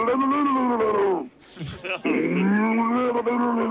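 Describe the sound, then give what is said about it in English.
A man's voice imitates a drowning cow with two long, gurgling, bellowing moos separated by a brief sputtering gap, loud. “A drowning cow.”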